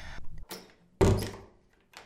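A door opens with a short scrape and a solid thud, followed by a brief rattle and a softer knock as it settles; no one speaks.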